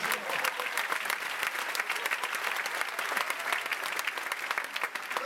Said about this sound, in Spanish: Un aplauso, ya va a llegar.